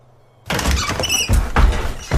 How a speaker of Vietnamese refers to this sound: Cánh cửa sổ bỗng dưng bật chốt.